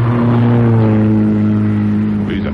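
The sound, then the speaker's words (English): A car engine roars loudly and steadily, a strong low hum with rising harmonics, as a vehicle speeds by, its pitch shifting slightly toward the end. “Did you see who was driving?”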